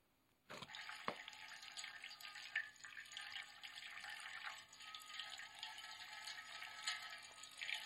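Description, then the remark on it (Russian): Water suddenly starts pouring from a small 1:10 scale model of a monument fountain, where water flows from a horse, and keeps running in a steady, hissing splash, fairly loud, with no voices over it. “Правда, вода здесь льется в масштабе 1:10.”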